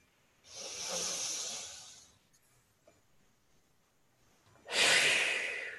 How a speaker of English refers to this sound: That would be a deep breath.